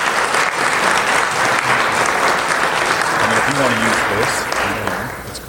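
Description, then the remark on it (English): A sustained round of applause welcomes the first speaker to the podium at an event held again after 20 months. It is dense and loud, with many hands clapping steadily for several seconds before easing off slightly at the end, and a voice briefly rises over the clapping partway through. “But let's please all give a round of applause”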